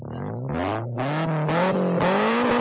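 A car engine revs hard, its droning pitch climbing in surges with brief dips between gear-like pushes, loud and steady throughout with no voices.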